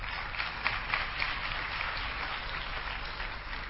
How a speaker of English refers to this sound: So this is all of the clapping we'll be doing for this weekend. You have finished clapping for the whole weekend. No more clapping.